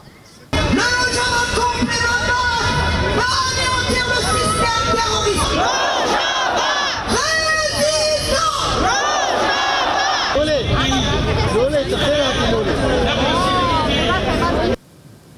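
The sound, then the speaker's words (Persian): A protest crowd at a demonstration in Washington against the Turkish attack chants and shouts together in loud, rhythmic bursts, many voices rising and falling in unison as a steady dense babble runs underneath, continuous until it cuts off abruptly. “در شماری از شهرهای اروپایی از جمله اسلو، پاریس و برلین و همچنین در واشنگتن نیز تظاهرات و تجمعاتی علیه حمله ترکیه برگزار شد.”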